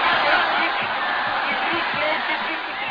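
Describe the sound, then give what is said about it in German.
A dense, loud roar from a large crowd of spectators at a fight, many voices rhythmically shouting together the colours they bet on, in a steady wall of noise that holds for the whole stretch without a break. “Im Rhythmus brüllen die Zuschauer die Farben, auf deren Sieg man wettet.”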